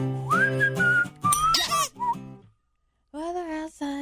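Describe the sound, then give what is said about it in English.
A shrill, squeaky whistled melody of a Christmas song plays a short run of sliding notes, breaks off into a brief silence, then picks up again with a few more wavering tones. “All right, the whistle.”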